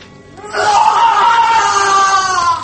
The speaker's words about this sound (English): We will wait until his screams subside. Yes. The wounds he received last night in the counterattack, they have not been treated.